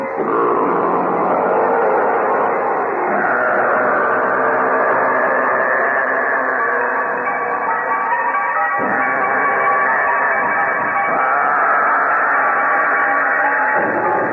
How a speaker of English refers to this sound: Hear that roar? Well, what that was, he had set up on the back of the stage, on a stand, a Pratt and Whitney aircraft engine with the propeller aimed out at the audience.